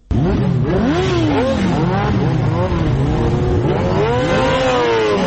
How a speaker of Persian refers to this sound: این صدای اگزاز موتورسیکل های عاشقان سرعت در ولایت هرات است. گروهی از موتورسیکل سواران سنگین وزن با سرعت بیش از 200 کیلومتر در ساعت شارهای هرات را در روزهای تمرین می پیمایند.